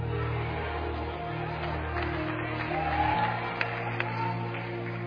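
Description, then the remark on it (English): A large crowd claps and shouts together, a steady roar of voices and scattered hand claps over a low hum, with a few sharper claps standing out. “Don't just clap, don't just shout.”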